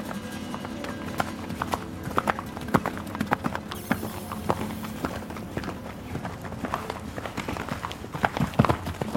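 The hooves of Divino, a stallion kept at home, clip-clop steadily across a hard surface, a brisk, slightly uneven rhythm of sharp knocks that carries on throughout, with faint background noise.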